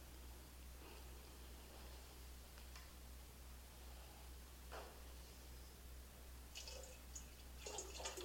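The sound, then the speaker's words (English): A quiet, steady wash of flowing water from the Arkansas River, with a few brighter splashing bursts breaking through near the end. No voices, just the continuous rush of the current. “I give you some water from the Arkansas River, from the place of now.”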